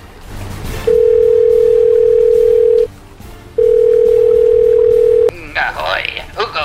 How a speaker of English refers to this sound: Let me just dial him up on his pirate clamshell phone thing. Hang on.